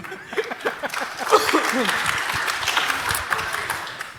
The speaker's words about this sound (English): And a whopping 20 kilograms of coffee beans. Yeah, this is an applause.